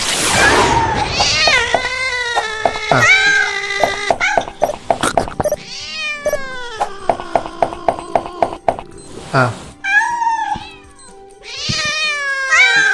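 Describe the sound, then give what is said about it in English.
Repeated synthetic-sounding cat meows from a video game, still playing after the cat is gone because of a bug, loud, several in quick succession with short rhythmic chirps between them, playing alone without speech. “Because the cat's gone, but it's still playing the cat noises.”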